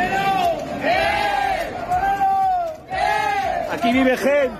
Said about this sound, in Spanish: Aquí vive gente. Que entran en Santiago gritando y cantando ante el hastío y el malestar de los vecinos